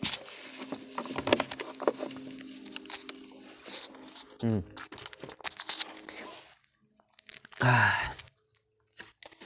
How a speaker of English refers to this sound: I think that's good time to drink a bit of water.